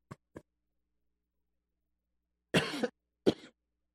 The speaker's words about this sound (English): This COVID stuff's a booger. And you get a dry throat, and when you do, you start coughing.